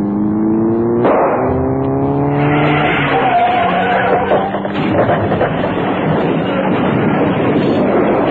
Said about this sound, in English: There is a car in our tail, but whether it's following us, I don't... Wait a minute. It's beginning to overtake us. Get down